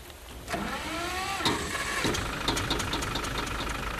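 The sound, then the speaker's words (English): The engine of an old, plain motor car runs, a steady low rumble with a faint knocking tick and a brief rising whine as it revs, with no voices. “This is Mr. Patterson's motor car. Not a very fancy automobile.”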